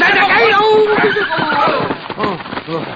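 A horse neighs loudly, a long wavering whinny followed by a few shorter, rising and falling calls over about three seconds.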